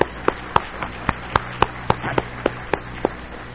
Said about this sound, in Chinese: 但现在咱先用拍手来感谢上帝，来欢迎因一家一同来到咱的中间来讲做咱的主任牧师。